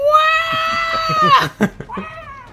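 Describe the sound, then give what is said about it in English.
A voice imitates a robot's electronic screech like R2-D2: a long, loud, steady whine that breaks into choppy bursts, then a shorter rising squeal, with no other talk. “I just imagine like an R2-D2 screech.”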